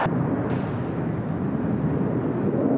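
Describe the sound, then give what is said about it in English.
A steady, heavy low rumble of a plane passing overhead, loud and continuous with a broad roaring texture and no voices. “Just a normal plane.”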